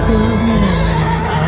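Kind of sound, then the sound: animal, horse neighing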